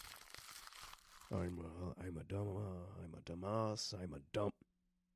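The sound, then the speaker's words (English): Paper rustles and crinkles for about a second, a dry crackling handling noise, before a voice starts talking and carries on to the end. “Let me see the paper for a sec.”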